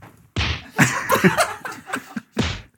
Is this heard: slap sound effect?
yes